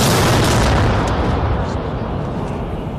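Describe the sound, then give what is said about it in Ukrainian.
A heavy artillery gun shot roars through the whole moment, a dense rumbling blast that stays loud and only slowly eases off over about three seconds. “Як гармата? Хорошо стріляє.”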